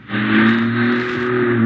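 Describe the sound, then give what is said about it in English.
A car's engine hums steadily as the vehicle, stopped at a red light, slowly rolls backward toward the car behind it as the brake is eased off, a low even drone with no other sounds or voices. “Carefully, you ease your foot off the brake pedal. Let the car roll back toward the one in the rear.”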